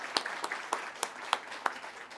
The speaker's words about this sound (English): I could not do it without their support, so please, round of applause for ASR Media.